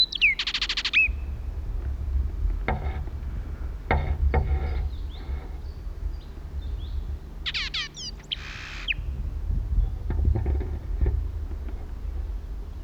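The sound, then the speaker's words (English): Blackbird contact calls, some 120 feet away, come in two brief bursts of high, rapid chirps, one at the start and another midway, with some sharp clicks between them over a steady low rumble. “At last contact call was some 120 feet to my right.”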